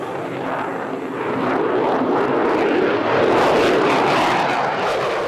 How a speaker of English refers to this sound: Typhoon jet rips through the night sky above RAF Akrotiri in Cyprus.